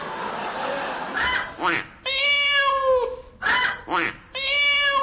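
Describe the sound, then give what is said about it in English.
A voice imitates a 'chicken duck cat' meowing: two long, drawn-out, nasal meows with shorter squawky, quack-like yelps between them, loud. “That was a chicken duck cat.”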